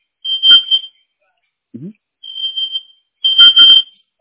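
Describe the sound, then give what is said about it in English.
A sensitive kitchen smoke alarm shrieks in loud, piercing high-pitched bursts, three long blasts with short gaps between, set off while someone is cooking in a hot kitchen. A person's voice can be heard briefly underneath. “I have a sensitive alarm in here. It's hot. And I'm in the kitchen cooking, so my alarm keeps going off.”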